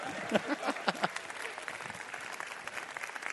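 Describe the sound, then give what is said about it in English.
An audience, asked by the speaker to clap, breaks into steady applause, dense scattered claps at moderate volume, with a few brief voices rising over it near the start before the clapping carries on evenly. “All right? Clap. Rejoice with those that rejoice.”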